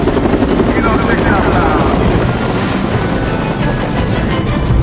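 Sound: helicopter flying overhead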